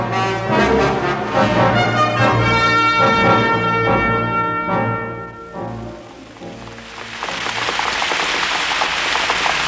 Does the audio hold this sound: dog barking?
no